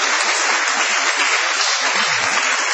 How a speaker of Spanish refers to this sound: Vamos a festejar esta noche el regreso, el temido regreso de Patricio Barton, a quien aplaudimos en este acto.